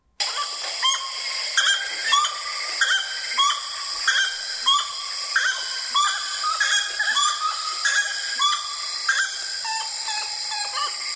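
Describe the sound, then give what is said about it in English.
A gray-necked wood rail (Saracura-três-potes) calls loudly, repeating a rhythmic series of hooting, clucking notes for several seconds over a steady background chorus of birds and insects. “I think it's the gray-necked wood rail or the Saracura tres poches.”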